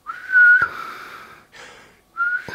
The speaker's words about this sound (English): If you try to send air through your nose and whistle at the same time, it doesn't really work. Watch.